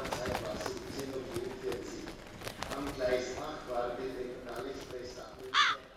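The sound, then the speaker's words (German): Seven ravens caw in harsh, overlapping bursts against a busy outdoor background, with one louder, sharper call standing out near the end. “Ja, wo sind denn jetzt die 7 Raben gelandet?”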